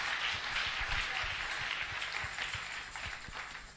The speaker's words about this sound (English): Clap for the Holy Spirit.